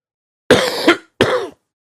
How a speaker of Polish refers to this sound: O, wyłączyłem tak, żeby Państwu nie kaszleć.